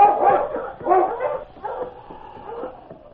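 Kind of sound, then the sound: animal, husky dog barking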